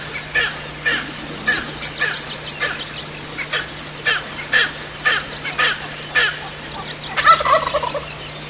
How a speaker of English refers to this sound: Rio Grande originally came from Oklahoma in the 50s. And they're gobbling in the dark. You can't see them, but you can hear them. It's dark. They fly down in the dark.